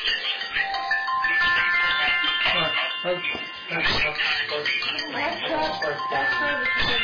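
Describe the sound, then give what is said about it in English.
An alarm rings continuously for about seven seconds, a loud, bright, bell-like ringing with steady high tones that barely lets up. “I have to shut this alarm off.”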